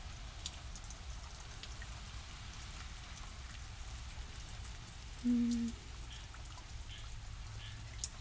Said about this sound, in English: Just watching the rain come down. It was raining pretty hard earlier, but it seems to have let off a bit. It's so pretty and quiet.